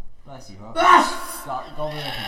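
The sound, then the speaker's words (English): A single loud sneeze bursts out mid-clip, sharp and breathy, with indistinct talking just before and after it. “Bless you, bro.”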